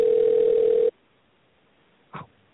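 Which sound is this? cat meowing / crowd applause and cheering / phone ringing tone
phone ringing tone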